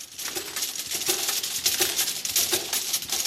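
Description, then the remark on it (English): Rapid, continuous clinking of thumbnail-sized glass vials tapping together as they are put through a labelling machine at Allergy Therapeutics in Worthing, England; bright and high-pitched, over a steady mechanical whir with faint repeating pulses. No one speaks. “The sound is of glass vials the size of a thumbnail being put through a labelling machine at Allergy Therapeutics in Worthing.”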